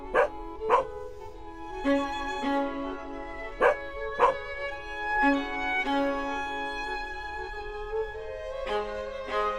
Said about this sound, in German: also da gibt es sogar einen bellenden Hund.